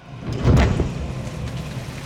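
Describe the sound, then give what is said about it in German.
A storm roars with driving rain, a dense wash of hiss over deep rumbling, surging loudest early on and then holding steady. No voices. “Ein furchtbarer Sturm kam auf. Regen peitschte Rapunzel ins Gesicht.”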